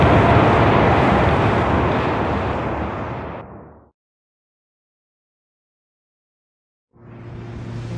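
An audience applauds to welcome a Franciscan friar, in a dense, steady wash of clapping that gradually fades out after about four seconds, followed by a few seconds of silence before a new sound with steady tones begins.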